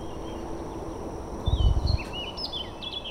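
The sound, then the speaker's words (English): Several birds chirp and call in overlapping bursts over a steady, hissing outdoor background, with a brief low rumble near the middle. No one speaks. Recorded at the end of a gravel road above a creek flanked by cypress and pine trees in the Tangipahoa Floodplain, southeast Louisiana. “At the end of a gravel road, a symphony of birds leads to a 20-foot drop-off.”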